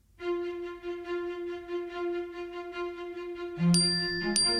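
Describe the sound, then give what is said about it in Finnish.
A notification ding for an email arriving in the inbox with a PDF file of a scanned letter: after a steady, ringing tone, two bright, clear chimes strike in quick succession near the end, with no talking. “Pääsy alkuperäisen kirjeen luo uupuu edelleen, mutta sähköpostini saapuneet laatikkoon kilahtaa PDF-tiedosto.”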